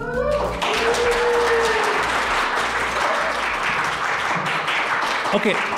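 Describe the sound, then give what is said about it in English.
An audience at a live Sweater Weather show, asked to applaud after the welcome, bursts into sustained, loud applause, a dense wash of clapping that holds steady for several seconds, with a few voices and a brief whoop rising through it. “So but I'd ask you to give us a round of applause after I say hi, everybody.”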